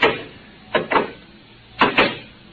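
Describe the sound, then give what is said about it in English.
A sliding door shuts behind two people with sharp, airy whooshes, two quick pairs of hissing bursts about a second apart, clear, with no voices. “Ray, the door's closed behind us.”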